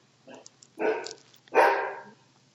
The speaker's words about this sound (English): Dog won't stop barking.